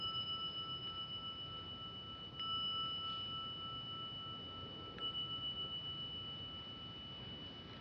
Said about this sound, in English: Continuing in mindfulness even after the bell is rung.